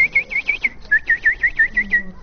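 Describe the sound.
A voice whistles a quick run of about a dozen short, high peeps in a steady rhythm, imitating ducklings, fairly clear with a brief pause partway through.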